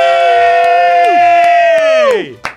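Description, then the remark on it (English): A loud, sustained cheer from a roomful of voices, held steadily for about two seconds before the pitch sags and the shout trails away. “Everybody cheer really, really loudly.”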